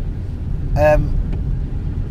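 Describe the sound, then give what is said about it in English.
Steady low rumble inside an old 2002 Toyota Avensis with 210,396 miles on the clock as it drives along, road noise droning throughout, with a brief voiced squeal or vocal fragment rising over it midway. “And but it's not a very nice, it's not a very comfortable car.”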